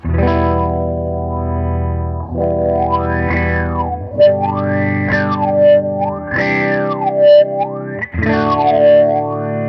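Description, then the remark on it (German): A loud, distorted electric guitar played through an effects pedal, sustaining chords while the tone sweeps up and down in slow repeated waves, with a few fresh strums along the way. “wie du das Pedal treten würdest.”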